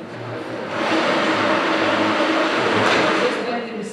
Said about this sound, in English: You can hear the cash counter there, that thrumming noise, counting their old paper notes to exchange them for new polymer ones.